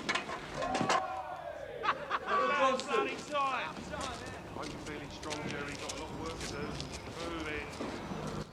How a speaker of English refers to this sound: Things are unsettling the horses.